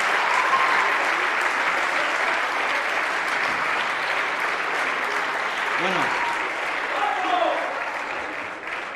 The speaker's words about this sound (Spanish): Yo creo que le demos otro aplauso, ¿no? Se lo merece, ¿verdad?